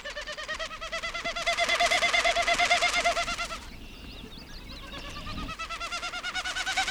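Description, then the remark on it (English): Wilson's snipe winnowing: a rapid, hollow, pulsing hoot-like whir made by the outermost tail feathers as the bird flies at about 25 miles an hour. It swells for several seconds, drops away briefly, then returns in a second bout. “The winnowing sound comes from the outermost tail feathers.”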